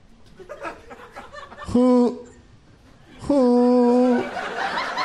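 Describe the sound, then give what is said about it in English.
A person's voice imitates an owl with two drawn-out, steady hoots, loud, separated by a short pause, over low background murmur. “She's going to think an owl's asking her.”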